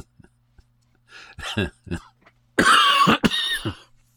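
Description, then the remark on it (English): Several short, raspy coughs build into a loud, harsh coughing fit, then trail off into a couple of weaker hacks. “Just like coughing and giggling might also be a fairly significant clue.”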